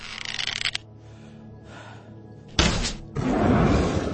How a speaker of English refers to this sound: No luck. My shot was accurate, but the arrow bounced off the Hydra's scaly torso, splintering on the cavern wall nearby. It was a worthy experiment, but it cost me a valuable arrow, and the result is clear.